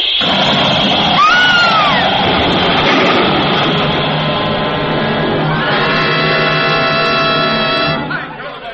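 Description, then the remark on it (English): A loud, sustained roar of crashing and clamour from a collision with a train, with people screaming. An early sliding wail gives way to a steady, shrill, many-toned shriek that holds until the noise drops away near the end. “Bumped into a train.”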